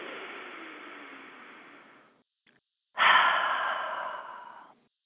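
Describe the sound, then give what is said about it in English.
A slow, deep breath drawn in for about two seconds as part of a guided breathing exercise, a brief pause, then a louder, airy breath let out. Clear, with no talking. “The first thing I want to encourage everyone to do, and you can do it right along with me, is I'd like you to take a nice, deep, long breath. Just a nice inhale, like as if we're at the doctor's office.”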